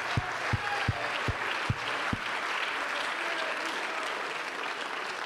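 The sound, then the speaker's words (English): A large crowd claps continuously in praise of Jesus, a dense wash of applause, with a few steady, evenly spaced thumping beats in the opening seconds before the clapping carries on alone. “Let's clap our hands to our great farmer.”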